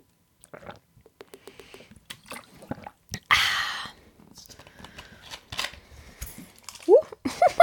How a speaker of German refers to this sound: Jetzt hätte ich fast meine ganze Wasserflasche auf dem Mikrofon verteilt.